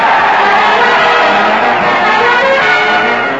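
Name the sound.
crowd cheering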